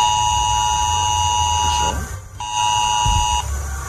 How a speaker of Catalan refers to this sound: I atenció, perquè si ens escolteu des de les comarques de la Catalunya Central i de totes les comarques de Girona, cap als vols de les 11 sentireu aquest so que us apareixerà als vostres mòbils.